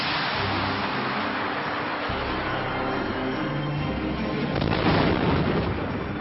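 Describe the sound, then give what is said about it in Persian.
A missile launch from the American warship USS Vincennes in the Persian Gulf at 10 a.m. during the Iran–Iraq war, fired on the order of commander Will Rogers: a loud, continuous roaring rush of noise that surges to a heavier blast-like swell near the end before easing off slightly, with no voices. “ویل راجرز فرمانده ناو بلافاصله فرمان شلیک موشک را صادر کرد.”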